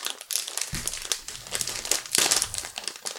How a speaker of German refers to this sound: Und man kriegt den Beutel nicht so ganz auf, glaube ich. Tüte geht nicht so richtig einfach auf, ne? So. Ah, ich hab's.